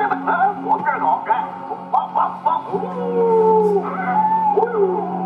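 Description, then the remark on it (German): A person imitates dogs on request, giving a run of short, yappy barks before sliding into a long, wavering howl, loud with overlapping voices. “Und dann nochmal für mich bellen, bitte, ja? Ihre Hunde.”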